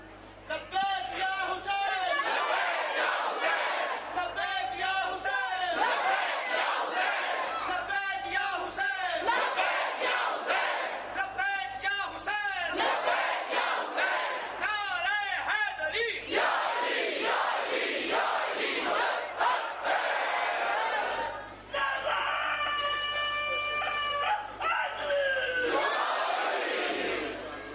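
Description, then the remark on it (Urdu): A huge crowd of followers of Husayn ibn Ali loudly chants "Labbaik" in unison to their master, the massed voices rising in repeated rhythmic bursts every couple of seconds, sustained for the whole stretch. “اتنی کثیر جمعیت اگر لبیک کہے, یہ لبیک کسی یزید کے کان تک تو پہنچنی چاہیے کہ حسین ابن علی کے پیروکار اپنے مولا کو لبیک کہہ رہے ہیں.”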